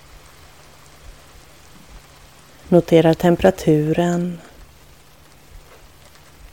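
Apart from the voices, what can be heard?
soft rain falling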